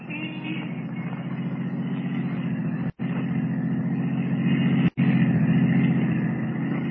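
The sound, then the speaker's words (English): A taxicab engine runs with a steady, low, throaty drone for several seconds as the cab sets off to follow a roadster. The drone is broken by two brief clean cutouts, with no voices present. “Rather than risk detection by trailing the girl as Superman, Kent steps into a waiting taxicab and follows her.”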